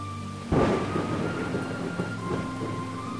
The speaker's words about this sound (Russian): Полил холодный дождь, и сквозь его туманную завесу тусклый свет уличных фонарей казался жутко мертвенным.